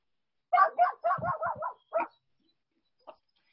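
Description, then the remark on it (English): A dog barks in a quick, excited string of about half a dozen yappy barks, then gives one more bark and a faint final yip, with no talking. “where's the dog?”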